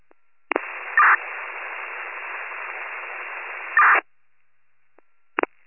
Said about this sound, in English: Unit keying up, that's all static.